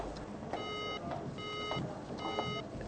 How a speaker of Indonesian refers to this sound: Pas pada saat itulah hubungan telepon putus.